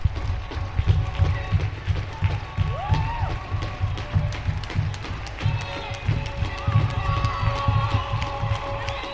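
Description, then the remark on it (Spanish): A crowd applauds steadily in the street in Pamplona with scattered cheers, while sirens of the Guardia Civil, Policía Nacional, Policía Foral and Policía Municipal wail and sweep in pitch over the clapping and a low rumbling background. “En Pamplona, aplausos y sirenas.”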